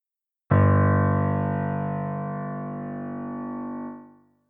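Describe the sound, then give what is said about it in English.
One sustained musical note, played in a listening test asking whether it is high or low, with a sharp attack and rich, buzzy harmonics, held steadily for about three and a half seconds before fading out, alone with no other sounds. “Is the note high or low?”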